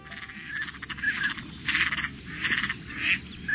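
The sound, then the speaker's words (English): Black ducks and canvasbacks give a series of harsh, raspy calls that repeat in uneven bursts over a steady low background, moderately loud, with no voices. “The United States is home to more than 550 national wildlife refuges, havens for wildlife, like these black ducks and canvasbacks.”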